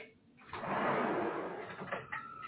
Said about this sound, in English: I'm going to open the back door, so. Sorry about that.